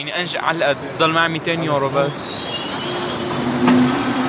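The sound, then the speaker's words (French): The Euronight 220 night train rolls into a station at 22:55 with a steady low rumble and a sustained high metallic squeal of wheels braking, while a person speaks over the first half. “22h55, l'Euronight 220, rebaptisé le train de l'espoir, entre en gare.”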